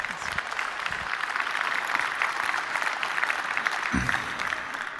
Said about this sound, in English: A round of applause